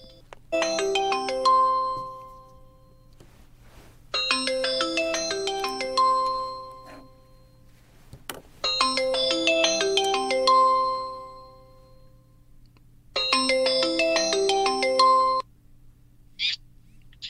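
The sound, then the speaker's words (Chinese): A WeChat voice call ringing tone, placed to connect with a caller in Jiangsu, mainland China, plays four times, each bright, chiming melodic burst lasting about two seconds, separated by short pauses, clear with no talking. “今天是礼拜二，我们跟大陆的朋友来做这个电话连线哈，这个微信的这个语音通话哈。”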